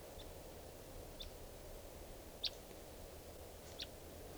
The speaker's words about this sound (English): We're recording at 3:10 p.m. and there's a wild bird here.